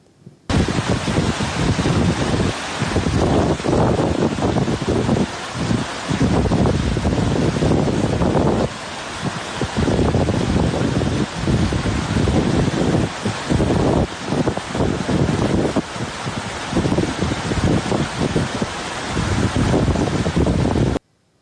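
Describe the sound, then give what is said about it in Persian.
Loud, continuous rushing of floodwater submerging the road from Nimruz to Hirmand in northern Sistan, a dense churning roar with wind buffeting the microphone, steady throughout with brief dips and no voices. “ویدئویی هم داریم از زیر آب رفتن جاده نیمروز به هیرمند در شمال سیستان.”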